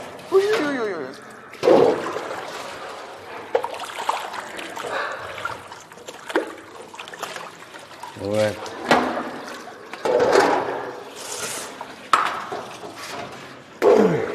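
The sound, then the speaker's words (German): Water splashes and trickles in short bursts as the water in a birdcage is changed, with clinks and rustling in between, while a person talks softly over the activity. “Nur das Wasser. Nur das Wasser.”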